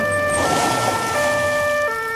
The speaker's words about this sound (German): Da hört er die Krankenwagensirene. Tatü, tata, tatü, tata.